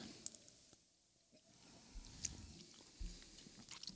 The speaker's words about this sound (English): Quick initial sip, guys.